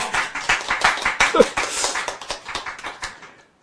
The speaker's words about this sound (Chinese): 好，那我们是不是可以大家一起努力把它让它流行起来？可以哦，拍手。